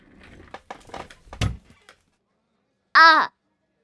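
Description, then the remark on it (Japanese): A rapid series of wooden clatters and thuds as a chair is knocked over and bounces on the floor, then a pause and a brief, loud, high-pitched squeaky cry. “思わず椅子も倒すよね。”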